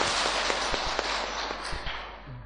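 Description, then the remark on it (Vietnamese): A crowd of more than 1,000 Buddhist followers in a dharma hall applauds steadily to welcome a monk, a dense wash of many hands clapping at once that holds for a couple of seconds and then begins to thin and fade. “Tôi thì chắc quý vị cũng đã biết rồi, và sự hiện diện của hơn 1.000 quý Phật tử chúng ta trong đạo tràng ngày hôm nay, xin chúng ta cho một tràng pháo tay.”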